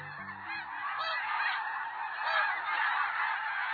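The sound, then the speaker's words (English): A dense chorus of snow geese honking overhead as they migrate in autumn from their Arctic breeding grounds in North America. Many overlapping high, nasal calls pour continuously from a large flock, with no talking. “This wild sound, some liken it to the baying of hounds, pours from the sky each autumn along all four North American flyways.”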